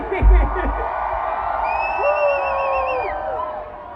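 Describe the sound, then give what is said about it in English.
An audience of women holding up signs screams and cheers loudly when called on to make noise, high-pitched shrieks and wavering whoops rising over a dense roar of voices that holds steady for several seconds. “What up, ladies? Scream!”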